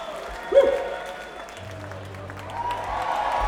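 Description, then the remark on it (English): A crowd at Waterloo Village, New Jersey claps steadily for a pig, a dense wash of applause with a brief shout or whistle rising out of it early on and a low hum underneath. “How about a round of applause for the pig, huh?”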